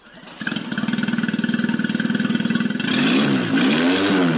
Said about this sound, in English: A boat engine is fired up in a video sent by a smuggler to our undercover journalist, who's posing as a Syrian migrant hoping to get to Britain.